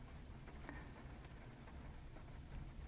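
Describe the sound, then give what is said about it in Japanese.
Soft, steady patter of rain striking the roof and windows of a parked car on a mountain, heard from inside, with scattered faint taps over a low muffled rumble and no voices. “そこで今は車の中で、車の中だから雨がこう当たる音が少し聞こえてます。”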